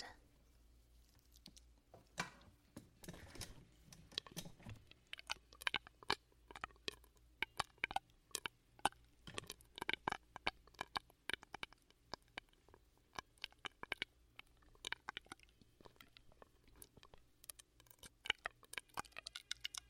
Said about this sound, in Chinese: 对，想听咀嚼音啊？嗯，等一下给你做哟。